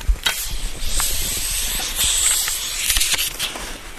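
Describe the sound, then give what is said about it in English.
A steady, airy hiss of air rushing through a maple sap vacuum line as a spout is pulled from a tree with a long hammer-claw tool, fairly loud, with a few faint clicks and taps scattered through it, in a maple forest in May. No one speaks. “uses a long tool with a hammer claw on the end to pull the spouts. He caps the line and it seals with vacuum pressure.”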